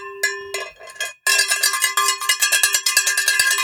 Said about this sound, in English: Actually... it's my beer bell. Does it work? It says ring for beer. Does it? Let me try it. Give it a little ring.